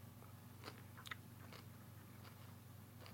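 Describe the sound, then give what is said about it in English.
Quiet chewing with intermittent crisp crunches, irregular bites repeating over a few seconds above a steady low electrical hum; no one speaks. “Awkward pause while I chew.”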